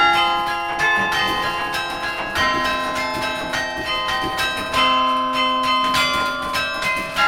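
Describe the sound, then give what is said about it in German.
A carillon of 47 bells in Kassel's city centre rings out a melody, overlapping tones with a bright, shimmering metallic ring and repeated strikes at a steady pace, no voices over them. “Man kann das Karillon tatsächlich immer 4-mal die Woche in der Kasseler Innenstadt für eine halbe Stunde hören.”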